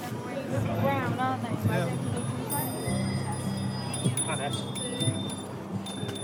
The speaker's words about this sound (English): This was one of my favorite protests. Dozens of people standing in a long row, ringing the bells on their bikes. They're right outside the conference grounds, next to the security check-in.